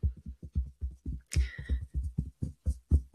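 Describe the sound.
Rapid, uneven fingertip taps on a microphone mimic rainfall: a steady patter of dull, low thumps, about six per second, with one sharper crackling burst partway through. No voices.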